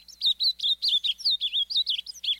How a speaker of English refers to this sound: Finally, the cheerful bubbly notes of an ultramarine grosbeak